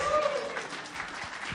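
An audience applauds at a church service in a steady, dense wash of clapping that continues through the whole short moment, with a faint tonal sound briefly audible at the start, as tithes and offerings are taken up.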